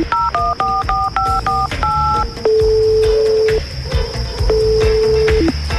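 A rapid run of electronic keypad tones as a mobile phone number is dialed, about a dozen short beeps, followed by long steady ringback tones on the line with a faint hum underneath.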